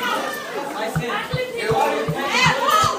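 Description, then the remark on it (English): Dense chatter from more than 1,000 students filling school hallways after the last bell, many young voices overlapping at once, with a steady muffled thudding of footsteps underneath. “More than 1,000 students fill the halls”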